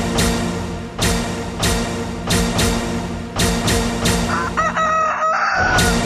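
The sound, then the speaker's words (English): Chickens cluck and squawk busily in a chicken coop while a rooster lets out a loud, drawn-out crow near the end, with a steady hum of coop noise underneath. “When a fox gets into a chicken coop, there's usually only one outcome.”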